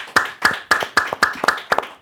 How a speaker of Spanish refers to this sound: bienvenido, un fuerte aplauso.